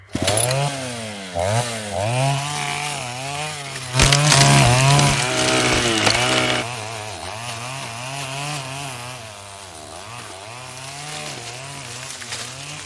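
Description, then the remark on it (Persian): A chainsaw revs up and down in repeated surges, then bites into a small tree trunk, cut to clear a path, with a louder, rougher burst of cutting before dropping back to a steadier engine drone. “خب این کوچولو رو میبریم و یه مسیر درست میکنیم.”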